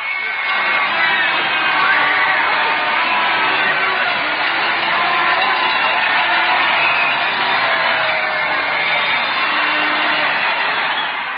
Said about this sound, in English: Such a happy day. We'd like to let you listen to the crowd. If you heard us before, we'll just show you how it has increased.